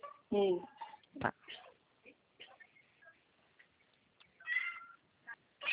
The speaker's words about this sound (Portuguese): Tem um gatinho aí, né? É, tem um gato aqui.